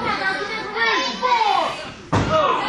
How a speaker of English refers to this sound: Erickson bangs LT's head in the apron. Ooh, another punch to the head by Lance Erickson.